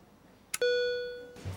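A patient monitor alarm, switched back on as the patient's blood pressure falls to 89 over 63: a sharp click, then one steady electronic tone with bright overtones that sounds clearly and slowly fades over most of a second before low background noise returns.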